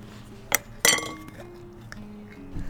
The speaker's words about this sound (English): You think it's really gonna explode? I've had it out of the fridge for 24 hours. We twist the mason jar open, expectantly.